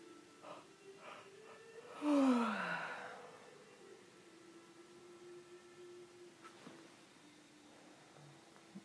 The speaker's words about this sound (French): Et forcément, ça appelle une grande entrée d'air. Quand j'inspire, je gonfle mon ventre. Et quand j'expire, je creuse mon ventre. Je le rentre vers l'intérieur.